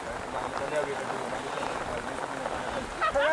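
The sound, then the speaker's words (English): Steady, dense hiss of heavy rain from bad weather caused by Hurricane Mitch, falling throughout and constant in level, with faint murmuring voices beneath and a brief clearer vocal sound near the end. “Apparently the bad weather we're getting is being caused by Hurricane Mitch, which is blowing through the Caribbean at the moment.”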